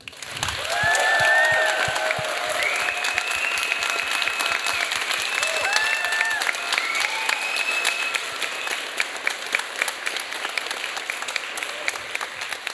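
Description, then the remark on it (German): Sustained audience applause for the winner of the Next Generation Poetry Slam at the Lesenfestival in Fürth, with dense, rapid clapping joined by high whoops and cheers rising over it, continuing loudly for the whole stretch. “Einen großen Applaus für unsere Siegerin”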